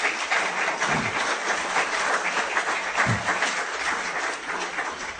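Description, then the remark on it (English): A crowd applauds the candidates steadily, many hands clapping in a dense, continuous crackle that holds an even loudness for several seconds, with no voices rising above it. “So first, before we even begin, let's have a round of applause for all of our candidates.”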